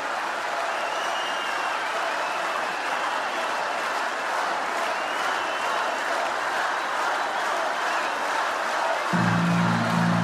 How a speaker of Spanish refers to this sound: Y así lo percibe la Quinta Vergara y por eso aplaude y por eso vitorea y se para a aplaudirte esta noche.